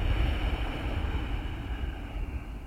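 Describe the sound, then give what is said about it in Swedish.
A slow, steady exhale through the nose with a soft, throaty rushing hiss, unbroken for a few seconds, with no talking. This is a yoga breathing exercise with the throat lightly constricted (throat lock, Jalandhara bandha), breathing out as if to fog a mirror. “Och lyssna till ljudet av andetaget och känslan av andetaget som blir när du andas ut med det här lätta motståndet.”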